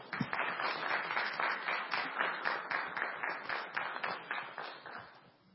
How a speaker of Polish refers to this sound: Wielkie brawa, dziękuję.